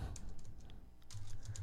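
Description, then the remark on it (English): Rapid, uneven typing on a computer keyboard with a steady stream of light clicks and taps, fairly quiet, over a low background hum with no voices. “Yes, you can hear me typing.”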